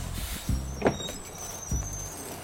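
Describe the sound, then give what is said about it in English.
A large tour bus idles with a steady low rumble while sharp hissing bursts and a mechanical clunk suggest the bus braking to a halt at a red light district and its doors working, with no one talking. “Yo, driver, is that the red light district there? Yeah, it sure is. Stop the bus, man!”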